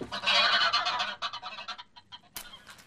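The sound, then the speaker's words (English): A goose squawks and honks loudly and frantically as it is caught, a dense burst of harsh cries that breaks into shorter flapping squawks, then one more sharp honk near the end. “carried the bird off to my place in Kilburn.”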